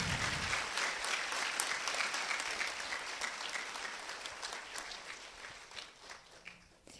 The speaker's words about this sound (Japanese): どうぞ今一度大きな拍手をお送りくださいませ。